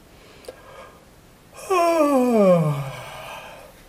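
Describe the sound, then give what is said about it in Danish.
A single loud, drawn-out yawn made while stretching during a voice warm-up exercise, with a voiced tone that slides steadily downward in pitch, lasting over a second, surrounded by near silence and no talking. “Og stræk og gab igen.”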